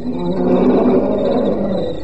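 A lion roars in one long, deep, rumbling call that swells and holds steady for about two seconds, loud, with no voices over it; the roaring has gone on all night.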